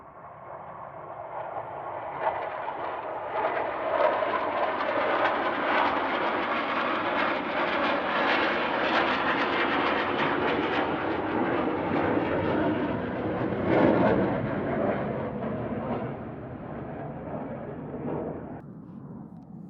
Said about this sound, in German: Es waren gerade vier Düsenjets, die hier spontan kurzerhand über unsere Köpfe hinweggeflogen sind. Können Sie das nicht draußen auf dem Meer machen, wo Sie keine Podcaster irgendwie stören würden bei Ihrer Aufnahme?